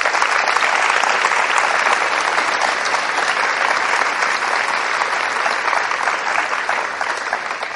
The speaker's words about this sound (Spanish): Y como nosotros, en este colegio y en esta arquidiócesis y en nuestro corazón, admiramos y amamos al sucesor de Pedro, vamos a dar un aplauso al Papa Francisco, por favor.